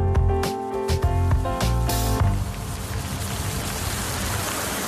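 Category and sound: nature, light rain falling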